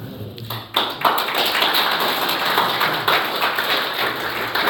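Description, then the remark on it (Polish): A church audience bursts into applause after a sermon, a dense, steady patter of many hands clapping that starts after a brief quiet moment and keeps going strongly to the end, with no voices over it. “To jak pijecie brawo, to jeszcze zespołem byście mnie tak zachęcili.”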